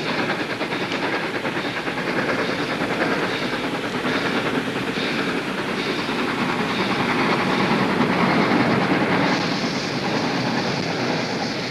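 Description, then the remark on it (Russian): A steam locomotive pulling a single railroad car rumbles steadily along the tracks, with a dense, continuous roar of wheels and hissing. It stays fairly loud throughout, with no voices. “когда показывается загадочный паровоз с одним вагоном.”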